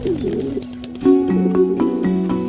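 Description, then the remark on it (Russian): Pigeons cooing in low, throaty, overlapping tones that roll on continuously, with a few soft clicks and light background noise mixed in. “Стоит учесть, голубь – одна из самых неприхотливых птиц, в отличие от тех же соловьев.”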